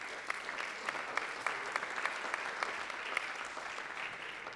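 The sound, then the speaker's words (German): Sustained audience applause, a dense steady patter of many hands clapping with scattered sharper individual claps, holding an even moderate level throughout without voices. “Einen großartigen Applaus.”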